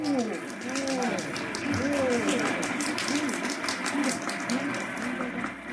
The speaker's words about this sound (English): Yes, ladies and gentlemen, this is a happy, laughing crowd along Fifth Avenue today. A true reflection of the great sense of humor and good nature that makes America the place it is.